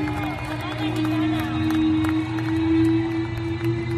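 A stadium crowd cheers in a dense, continuous roar during a tribute to Jenny Hermoso organised by Pachuca, with a sustained droning tone running through it and loudness holding steady for about four seconds.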